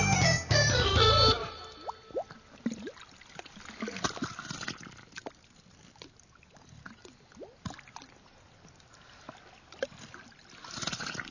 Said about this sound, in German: Das Meer im Hafen von Sydney in einer Radiokomposition von Rick Rue, heute im Kunstradio